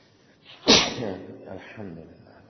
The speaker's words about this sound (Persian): مستحبه وقتی کسی عطسه میکنه، وقتی عطسه میکنه بگه الحمدلله رب العالمین، اللهم صل على محمد و آل محمد.